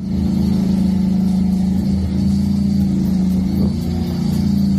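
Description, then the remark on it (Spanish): Heavy Ukrainian trucks loaded with grain rumble in a loud, steady low drone as they cross the Danube at a border crossing into Romania, with slight surges as vehicles roll past one after another. No one speaks. “Los camiones ucranianos atraviesan el Danubio llenos de cereal, llegan a Rumanía, desde donde se distribuye la mercancía.”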